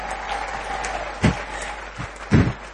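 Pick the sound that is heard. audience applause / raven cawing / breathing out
audience applause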